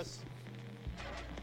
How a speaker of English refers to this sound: Oh, static.